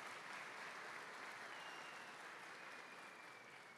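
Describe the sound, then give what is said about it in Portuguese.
A crowd gives a strong round of applause for Jesus, a dense, sustained wash of many hands clapping at once, loud and even throughout with no voices standing out. “Dá um aplauso forte para Jesus aí.”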